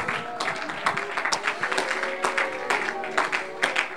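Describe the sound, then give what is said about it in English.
A crowd claps hands steadily and loudly for several seconds, a dense patter of many overlapping claps, with indistinct voices and sustained tones in the background. “Oh, you ought to clap your hands and believe it right now.”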